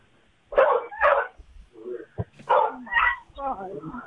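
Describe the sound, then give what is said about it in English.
A dog barks loudly in a run of sharp, harsh barks coming roughly in pairs, with higher yipping, whining sounds in between and a faint murmur of voices underneath. “You got a baby and a dog.”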